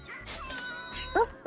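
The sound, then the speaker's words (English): Someone voices a dog impression: two short, sharp barks arrive near the end, the second cut off, after a stretch of quiet room noise. “Yeah, would you like to give us a dog impression?”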